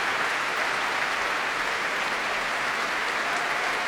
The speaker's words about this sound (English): Here he is, applauding the orchestra, indeed, applauding the audience. And that great roar for the brass section of the NYO.